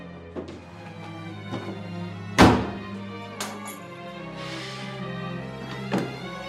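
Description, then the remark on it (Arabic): Heavy fist thumps on a door as someone demands it be opened, about six dull blows at uneven intervals, one much louder than the rest, over a steady low hum with no voices. “افتح الباب يا مريم، افتح الباب، افتح الباب، بقول لك وانا بكسر على الباب”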